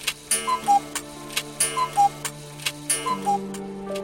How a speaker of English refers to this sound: Then the clock chimed above.